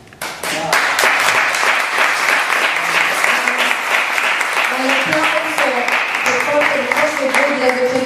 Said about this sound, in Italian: Potete ascoltare, ma dall'applauso qui del Teatro dei Conciatori di Roma si capisce che siamo d'accordo.